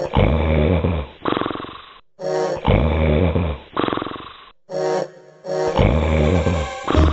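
Loud, deep, rattling snores of an ogre that shake the whole house repeat in three heavy cycles, each a rumbling inhale followed by a snorting exhale, with no talking.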